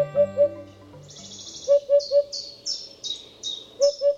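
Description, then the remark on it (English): A Eurasian hoopoe, a cinnamon-colored bird with black and white wings and a mohawk-like crest, calls in soft, hollow hoots, delivered in short bursts of two or three evenly spaced notes, while other birds chirp and trill brightly overhead. “The Eurasian hoopoe is a striking cinnamon-colored bird with black and white wings and a mohawk.”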